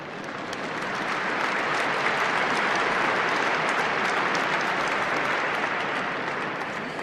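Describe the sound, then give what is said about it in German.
Sustained applause from a large audience, a dense wash of clapping that swells in over the first second, holds steady and loud, then eases slightly toward the end. No one speaks over it. “Sie dürfen klatschen.”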